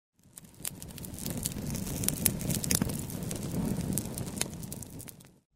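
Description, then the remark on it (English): A wood campfire in a clearing, lit with flint and amadou tinder, crackles steadily, with frequent sharp pops and snaps over a low, rushing burn. Moderately loud, with no voices. “The fire crackles and Elenir appraises him.”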